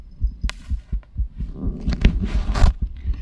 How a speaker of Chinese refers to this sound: 这真的是心跳哟！